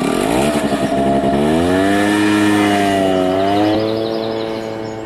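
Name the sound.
vehicle engine running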